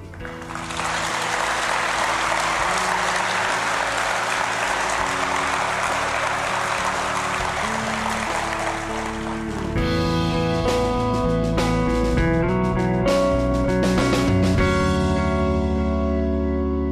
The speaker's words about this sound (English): That applause for Dr. Bill Bennett affirms his plea that we challenge the next generation to realize their identity and destiny should be deeply rooted in a relationship with God.